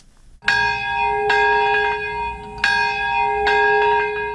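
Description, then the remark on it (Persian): Memorial bells ring in Nagasaki, Japan, at a ceremony marking 71 years since the atomic bombing, in a slow series of strikes, roughly four clear peals with long, shimmering tones that overlap and hang in the air, loud, with no voices. “صدای زنگ ها و ناقوس ها همساله این را بیاد می دهند که در یگانه مورد حمله هسته‌ای در ژاپن بیش از 200 هزار تن جان دادند.”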